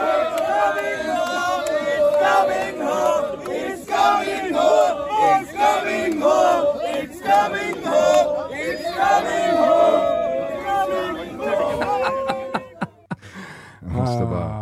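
A large crowd of fans marches while chanting "It's coming home" in unison, a loud, sustained sing-along with rhythmic swells and a few sharp shouts and claps near the end.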